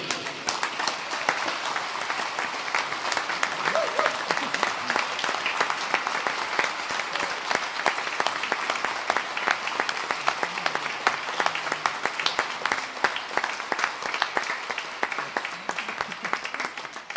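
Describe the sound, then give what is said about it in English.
A crowd stands, claps and cheers in celebration that Jesus Christ is risen, sustained dense applause for about seventeen seconds, a steady wash of many overlapping hand claps at fairly even loudness, with faint voices cheering underneath. “So when you say that, you should not only say it out loud, but stand up and cheer and clap.”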